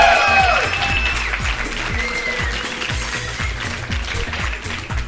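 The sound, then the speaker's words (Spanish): A live audience of guests from Villacuapa at a stop of the Token tour applauds steadily for several seconds, a dense wash of clapping with a few shouts and whistles rising above it, loud throughout. “Y tenemos a los mejores invitados de Villacuapa. ¡Un aplauso para ustedes!”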